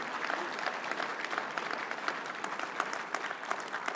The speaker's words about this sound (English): Can we just give a round of applause for all of the musicians who were involved tonight? Yeah.